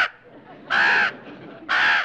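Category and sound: bird, crow cawing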